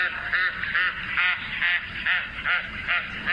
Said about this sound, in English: A flight call there from this large white wading bird with long bright red legs, black-tipped wings, a long down-curved reddish bill, and a patch of red skin around the eye.